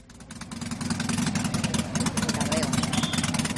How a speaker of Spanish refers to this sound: Bueno, esto que estamos escuchando es el mítico trote de Harley Davidson, y es que un día como hoy se fundó en 1903 en Estados Unidos Harley Davidson Motor Company.